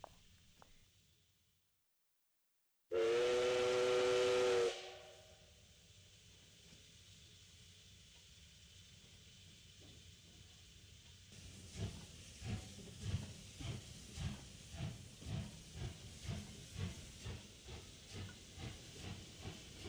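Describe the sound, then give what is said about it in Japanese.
A steam locomotive, said to reach 300 km/h at full power, pulls away: a brief silence, then a loud, sustained whistle blast, a long steady hiss of steam, and finally a rhythmic chuffing that builds in strength as the engine gets moving. “本気になれば300キロは出るからな。”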